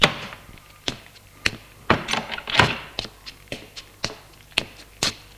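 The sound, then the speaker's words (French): A door opens with a series of sharp clicks and dull thuds, irregular knocks and taps of a latch and wood spread over several seconds, with no voices. “La porte s'ouvre.”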